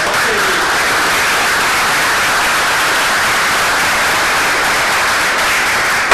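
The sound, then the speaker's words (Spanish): A large audience applauds steadily for about six seconds for the Asinda group, ArcelorMittal and their speakers, a dense, loud wash of clapping that holds an even level throughout with no voices above it. “Agradecemos expresamente al grupo Asinda, ArcelorMittal y a sus disertantes, a quienes pido un fuerte aplauso.”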